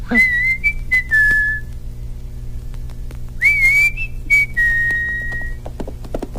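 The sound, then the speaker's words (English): A person whistles a short calling tune twice to call Jerome, each phrase a few bright sustained notes sliding between pitches, with a pause between, over a low steady background hum. “I'll whistle for Jerome.”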